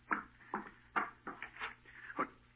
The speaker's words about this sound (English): No one here. You heard the knocking on the door, but you see there's no one here.